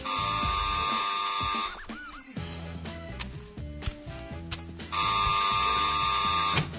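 A harsh, steady electric doorbell of a home buzzes twice, each ring lasting nearly two seconds, separated by a stretch of softer, mixed tonal sounds.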